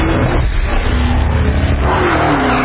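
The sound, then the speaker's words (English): A supercharged V8 engine in a Dodge sedan revs loudly and steadily, its deep roar filling the whole moment with a rough, throaty growl and no voices. “If you think putting a supercharged V8 in a sedan is crazy or just plain wrong, well, we've got news for you.”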